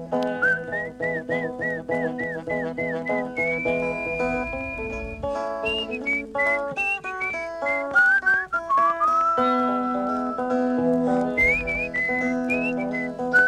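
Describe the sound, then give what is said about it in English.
Someone whistles a long, wavering melodic line of short repeated notes and sliding tones, continuous and fairly loud, over a steady instrumental accompaniment with no talking, demonstrating a whistle used to call an animal. “I said, well, how did you whistle to her? He said something like this.”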